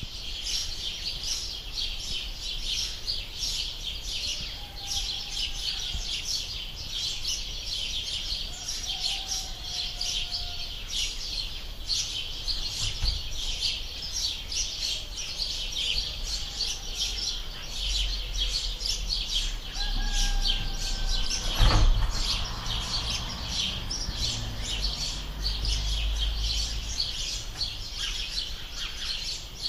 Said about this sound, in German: jetzt hört ihr mal die Vögel, das sind 128 Kilobit-Vögel. Ja, könnt ihr auch mal hören, wie das so klingt.